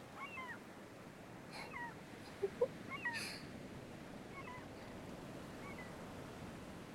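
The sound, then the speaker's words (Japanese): Several mewing, cat-like calls of black-tailed gulls ring out intermittently over a steady wash of surf and wind by the sea. A couple of brief knocks are heard midway. “この鳴き声、すごく海って感じがするから好きなの。”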